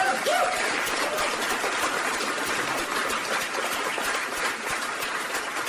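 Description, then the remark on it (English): An audience at the Vigil for Pittsburgh in Everett on November 1, 2018, applauds in gratitude to the speakers: a steady, dense clapping of many hands for several seconds, with no single claps standing out, holding an even loudness throughout. “I think that our applause now will be gratitude to all of our speakers.”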